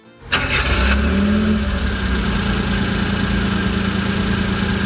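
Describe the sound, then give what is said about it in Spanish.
A car engine cranks and catches after a brief silence, then settles into a steady idle with a low rumbling hum that continues to the end, on the coast of A Coruña, Spain. “Cogemos el coche y seguimos recorriendo esta costa.”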